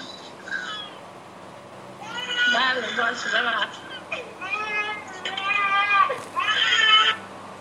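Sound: baby crying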